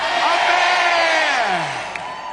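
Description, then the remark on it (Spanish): An audience shouts amen together, many loud voices overlapping in one sustained, swelling cry that falls away in pitch toward the end. “Shout amen, somebody. Griten amén.”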